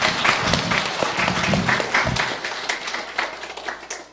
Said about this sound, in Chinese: 感谢主，欢迎欢迎。我们再一次以热烈的掌声欢迎今天第一次来到我们当中的朋友。